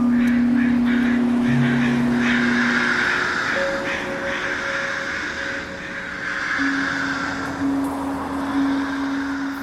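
A dozen crows sitting on power lines overhead caw harshly and repeatedly, loud and overlapping, above a busy street with steady traffic rumble and long sustained tones from passing vehicles.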